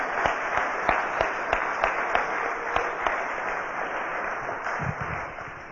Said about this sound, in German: Lass uns ihm einen Applaus geben.